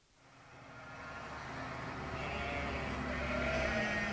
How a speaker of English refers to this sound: Here's a tractor.